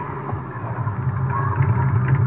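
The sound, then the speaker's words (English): A car engine hums steadily at low pitch, growing gradually louder as the vehicle draws nearer, with no voices over it. “There's a car coming.”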